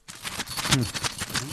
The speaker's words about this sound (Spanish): Suena, es un monedero con monedas.